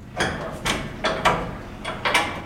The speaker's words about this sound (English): opens the door to his commercial fishing vessel, Endeavor, that's docked at a shipyard in Fairhaven.